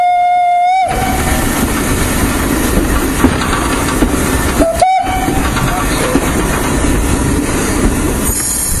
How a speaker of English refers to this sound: Just have to whistle for the crossing.